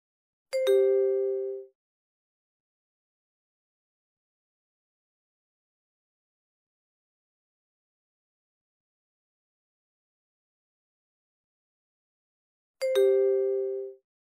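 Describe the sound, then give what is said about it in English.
Two identical prompt tones, each a bright, ringing two-note chime lasting about a second, separated by roughly twelve seconds of silence. No one speaks. The beeps prompt a caller to enter credit card information to pay for tickets. “Please enter your card information when you hear the beep.”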